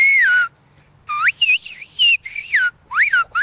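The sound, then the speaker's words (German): Whistled Greek speech (Sfyria) in a city park in Nea Smyrni, a district of Athens, Greece: a loud whistle glides through a short phrase, pauses, then runs into a quick string of rising and falling whistled syllables, a greeting meaning "Good day, how are you? All good?". No talking. “Die Sprache, die wie Vogelgezwitscher klingt, heißt Sphiria, abgeleitet vom griechischen Verb für Pfeifen”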